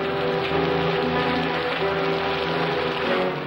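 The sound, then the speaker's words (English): Steady rain pours down outdoors onto a street without pause, a dense, even hiss filling the scene, with a low droning hum running underneath. No voices are heard. “Marlowe puts on his trench coat and gets out into the rain.”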